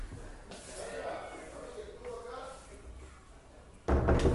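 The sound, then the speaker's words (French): A door is pulled shut with a sudden, fairly loud thud near the end, after a few seconds of faint voices and room noise. “Vous pouvez bien fermer cette porte. Ça devient insupportable.”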